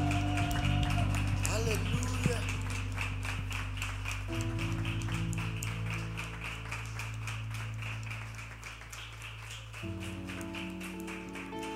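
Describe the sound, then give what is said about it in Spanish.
An audience claps hands steadily and loudly for the whole stretch, a dense crackle of many palms over sustained keyboard chords, with a voice calling out briefly; the clapping is offered as praise to the Lord. “Yo creo que puede ser esa ofrenda de palmas más grande para nuestro Señor.”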